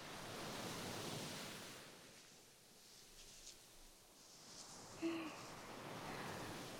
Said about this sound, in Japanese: 海を楽しむのなら夜がちょうどいいかもしれないですね。砂をさらう音、押しては引いていくしじま、音だけなら海そのものです。